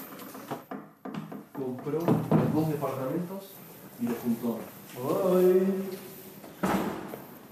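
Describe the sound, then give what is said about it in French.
An elevator arrives and its doors slide open in an Oscar Niemeyer-designed building in central São Paulo, the largest building in South America, with a few mechanical knocks and thuds, and a steady tonal chime or announcement ringing out near the end. “Voilà, l'ascenseur nous indique qu'on est bien, bien arrivé.”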